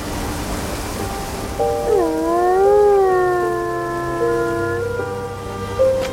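wolf pack howling

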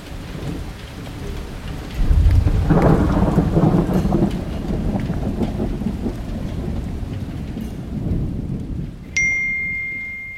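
thunderstorm with heavy rain

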